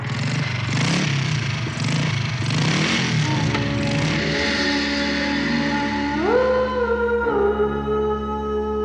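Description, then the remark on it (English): A motorcycle engine revs up loudly as a sound effect in a song recording, its pitch rising in a sweeping surge before settling into a steady, high whine, with no voices present. “How did you decide to get in the screeching wheels and the motorcycle revving up, all the sound effects?”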